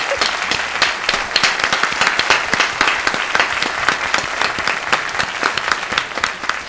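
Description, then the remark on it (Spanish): An audience applauds steadily for several seconds to welcome a guest, a dense wash of many hands clapping at once with sharp individual claps poking through, loud and unbroken throughout. “Un aplauso para Alfonso Conesa, por favor.”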